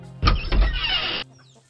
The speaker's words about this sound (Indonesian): Padi dan jagung yang sedang dijemur ditinggalkannya. Tidak ada yang menjaga. Berdatanglah ayam dan burung memakan padi dan jagung-jagung yang sedang dijemur itu.